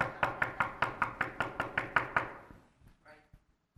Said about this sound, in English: And you would keep pounding until somebody came to the door.